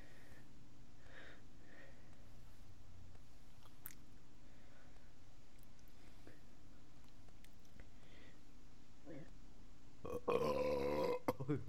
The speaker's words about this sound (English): Finished the Coke. All right. Before I throw this in the recycling, I'm gonna make a huge burp. Let's see.